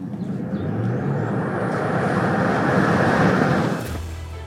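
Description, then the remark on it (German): A Tesla Model Y Performance electric car accelerates hard from a standstill: a loud, steady roar of tyre and wind noise with a faint high whine climbing in pitch, lasting a few seconds before cutting off abruptly. “Performance-Modelle von Tesla sind natürlich bekannt für ihren Start aus dem Stand.”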